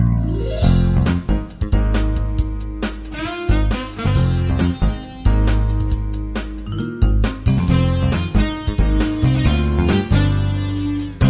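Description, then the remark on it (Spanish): A romantic sleigh ride scene carried by lush, continuous music, loud, with steady rhythmic accents and faint tinkling bells throughout. No one speaks. “Escuchen primero el romántico paseo en trineo.”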